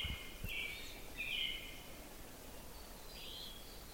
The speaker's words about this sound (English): A phoebe says, "Phoebe," kind of like. That's sort of his song. Yeah, he's singing, but he's a little far away.